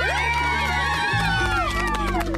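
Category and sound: crowd, audience applause and cheering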